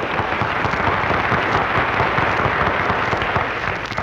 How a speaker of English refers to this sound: Thank you, folks. What are you thanking for, …? That applause was for me. Oh, I thought it was my reception.